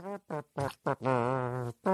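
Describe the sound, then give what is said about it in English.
A voice imitates a trumpet with buzzy, brassy notes: four short blasts, then a long held tone with a slight wobble, and another note beginning at the end. “we haven't heard a mouth trumpet in a while”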